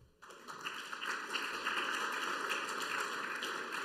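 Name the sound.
audience applause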